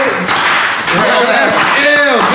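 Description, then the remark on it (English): A slow clap: about four sharp claps spaced roughly half a second apart, heard over a steady backdrop of voices or tonal sound. “This is a slow clap.”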